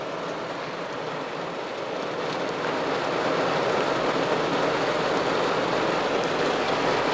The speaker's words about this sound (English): It's still pouring down rain. Pouring.